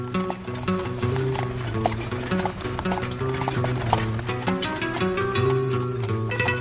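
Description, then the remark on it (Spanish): Horse hooves clip-clop in a steady walking rhythm, moderately loud, over a continuous tonal musical backdrop, with a brief whinny rising in the mix. “Recorrió Arabia, Siria, Mesopotamia y Persia a caballo o en camello cuando ninguna mujer occidental se atrevía a hacerlo.”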